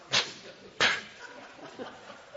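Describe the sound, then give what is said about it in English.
A voice imitates a disdainful sniff, illustrating the Hebrew word napah: two short, sharp, breathy bursts of air about half a second apart, followed by faint, low murmuring. “You disdainfully sniff at it.”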